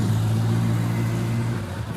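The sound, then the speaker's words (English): A loud car engine rumbles with a deep, steady droning growl that holds for about two seconds before easing slightly at the end. No one speaks. “That's such an annoyingly loud car.”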